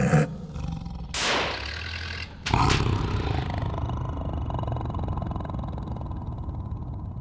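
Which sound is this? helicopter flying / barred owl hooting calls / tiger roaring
tiger roaring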